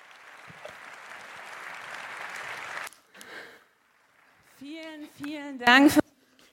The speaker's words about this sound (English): Please give a huge applause.